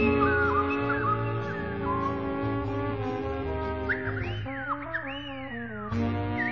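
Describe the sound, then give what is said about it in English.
A woman whistles a lilting melody with swooping, gliding high notes over a steady instrumental backing, the tune rising into bright upward slides near the end, played from a slightly off-center record. “We're listening to the sonic whistling of a woman”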